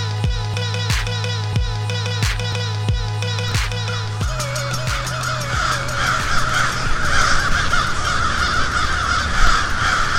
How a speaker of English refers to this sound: It's probably difficult to believe, but what you hear behind me is the song of a few hundred crows. I recorded them in February, and that's when their numbers usually start dropping.